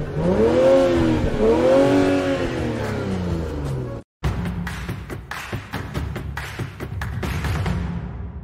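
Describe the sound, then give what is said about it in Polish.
A gold Maluch small car in Kraków is started and revved, its engine pitch swelling and falling twice, then after a brief cut it continues as a rougher, busier rumble with clattering bursts. “Zapraszam teraz, odpalę wam to auto, zobaczycie jego sound.”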